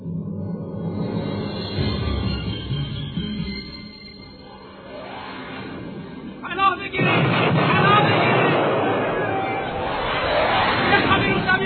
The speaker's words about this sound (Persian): از طرف دیگه مردم می ترسیدن که یکی از بمبا یا گلوله ی توپ بسیا به مسجد بخوره. همه این که این اتفاق افتاد.